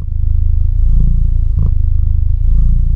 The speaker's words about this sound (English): Nothing says feline contentment like a good, rolling purr. Like many cats, Bilbo can be expressive.